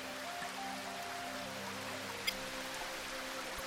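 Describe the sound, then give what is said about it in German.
A babbling brook and small waterfall in a meadow pour steadily, a continuous even rush of water at moderate volume, with a faint low humming tone underneath and one brief click partway through. “Ich höre einen Bach plätschern und einen kleinen Wasserfall.”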